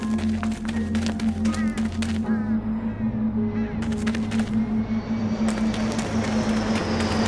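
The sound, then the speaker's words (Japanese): An airplane drones overhead, a steady engine hum with a broad rushing roar that swells louder toward the end, mixed with scattered clicks and clatter in the background. “なんか飛行機飛んでるじゃん。”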